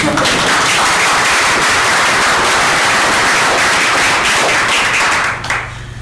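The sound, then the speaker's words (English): A burst of dense, steady applause from a group for the Parks Department, many hands clapping loudly together for about five seconds before it quickly thins and fades out. “Nobody's going to clap. I'd clap for them.”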